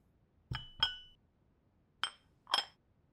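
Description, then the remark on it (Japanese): A glass tumbler is set down with a sharp clink near the ears of a person lying on a bed, before carbonated water is poured, followed quickly by a second, then two more clinks after a pause, crisp against a quiet background. “そしてこちらのタンブラーを両耳の近くに置かせていただきます。”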